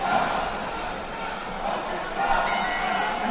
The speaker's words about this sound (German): Wollten nochmal durchziehen, der Mann aus Usbekistan ärgert sich, dass der Gong gekommen ist, weil Ablaikan Zusupov da relativ offen vor ihm stand.